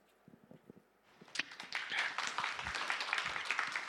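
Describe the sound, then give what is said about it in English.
Audience applause starts with a few scattered, tentative claps, then swells after about a second into steady, dense clapping from many hands that continues at a moderate level. “By the way, I expect that kind of applause at the end of my sermon.”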